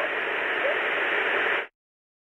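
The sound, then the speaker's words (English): Steady hiss of white noise, even and continuous across a broad range, holding at a constant moderate level for about a second and a half before cutting off abruptly into silence. “And part of that frequency range of the white noise is going to be covering that up.”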